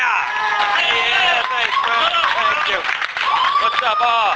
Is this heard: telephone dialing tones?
no